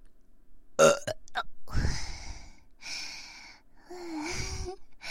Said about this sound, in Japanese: さっきよりちょっとちっちゃかったかも。ちっちゃいゲップも出してみましょうか。